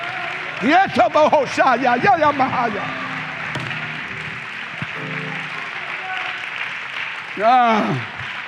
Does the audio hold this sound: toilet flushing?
no